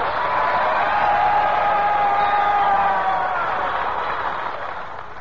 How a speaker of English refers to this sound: Did you hear that, Bonzel? Sure. They always applaud when they hear my name.